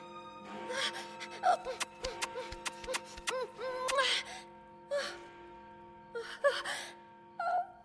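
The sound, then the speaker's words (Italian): An old clock ticks in a crisp, steady run of clicks, while someone gasps and moans breathily before and after. “E forse quel vecchio orologio va un po' avanti.”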